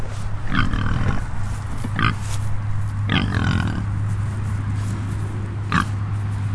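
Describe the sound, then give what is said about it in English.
Free-range pigs grazing oats and peas in a field near Newton Cunningham, by a busy road, grunt and snuffle in short bursts, several loud grunts spaced a second or two apart over a steady low hum of outdoor background noise. “The pigs are grazing it. They're eating the oats and peas, and everything else goes back into the ground, along with all the dung out of the pigs.”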